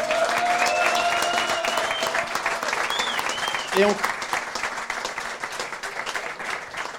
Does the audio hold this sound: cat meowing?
no